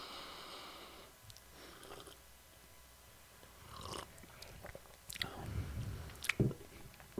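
Mouth sounds of someone taking one sip of a very hot cup of coffee: a soft slurp followed by wet smacks and swallowing, growing louder toward the end, with no talking.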